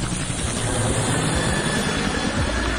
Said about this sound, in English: Yeah, before I talk, give me the helicopter sound, man. Hey, the helicopter power.